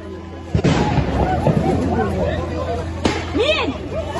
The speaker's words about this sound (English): In three separate strikes, Israel again showed what it can do at will to Gaza's skyline.